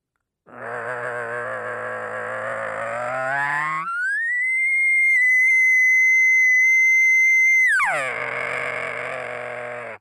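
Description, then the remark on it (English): An elk bugle made on a latex diaphragm call, begun with a growl in the throat and air across the latex: a raspy, growling start slides up into a long, steady, high-pitched whistle, then drops back down into a loud growl. No talking. “So that right there, that combination of the growl in your throat with a little bit of air going across the latex makes that perfect start.”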